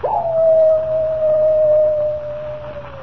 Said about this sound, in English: Does the howl of the coyote really spell death for Comanche Joe?